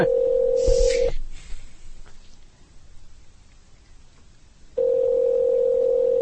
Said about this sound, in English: Ring, ring, ring. Hello, dead air.